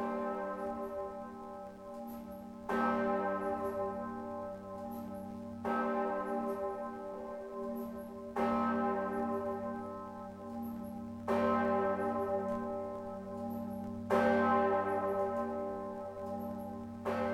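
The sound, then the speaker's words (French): A large, deep bourdon church bell tolls slowly and steadily, striking about every three seconds, each heavy stroke ringing out and humming into the next, with no voices. “Sans compter que le bourdon est aussi le nom d'une cloche.”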